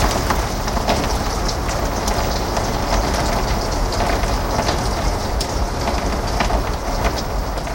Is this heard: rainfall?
yes